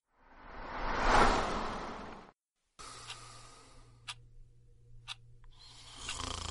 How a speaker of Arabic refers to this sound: وبعد دقائق بدأ صوت شخيره المزعج، فأيقنت أنه لا نوم في هذه الليلة السوداء.